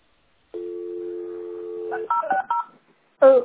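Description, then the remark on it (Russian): A steady landline telephone dial tone hums for about a second and a half while the line is being checked, then gives way to a quick run of touch-tone keypad beeps as a number is dialed, followed by a brief voice-like sound. “Гудок есть. Я 0,60 набрала. Ну. Гудок идет”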